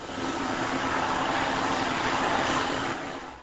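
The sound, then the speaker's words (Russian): A vacuum cleaner runs as the older son vacuums the apartment, with a steady, loud roaring whoosh and a low motor hum underneath, fading in at the start and easing off at the end, with no voices. “Старший сын убирает квартиру. Он пылесосит.”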